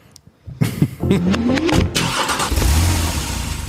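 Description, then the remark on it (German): A car engine cranks and catches, then revs up with a rising whine before settling into a steady rumble, all without any talking. “Wir sitzen jetzt im Auto.”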